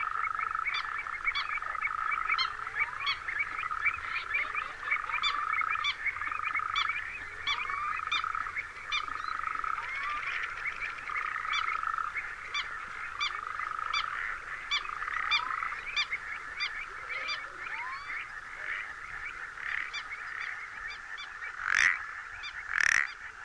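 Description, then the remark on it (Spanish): Painted frog double-note calls, the frog calling with half its body under the water's surface, repeat steadily over a dense, buzzing chorus of frogs and wetland birds, with a couple of sharper, louder bursts near the end. “Esta doble nota corresponde al sapillo pintojo.”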